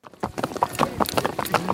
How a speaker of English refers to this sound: Sitting atop horses, these hired ranch hands are driving cattle through the pancake flat prairies of eastern Colombia. Known as llaneros, that's Spanish for plainsmen, the men have to cover a lot of ground.